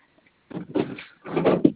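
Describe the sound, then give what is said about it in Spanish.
A vehicle's driver's door is opened with a short mechanical clunk and rattle, followed by a second burst of latch and hinge noise ending in a sharp knock, moderately loud. “Sí, abro puerta, chofer.”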